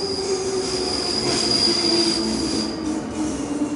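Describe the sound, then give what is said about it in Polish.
A train rolls steadily along the rails, its wheels giving off a sustained high-pitched squeal over a constant rumbling drone, with no voices. “Jest pociąg bezpośredni.”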